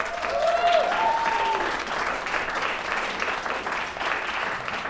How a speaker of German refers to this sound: Großen Applaus!